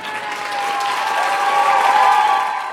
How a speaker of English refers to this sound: All right, a big round of applause for our next comedian